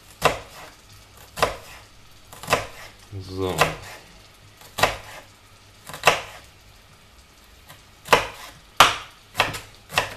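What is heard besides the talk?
knife dicing an onion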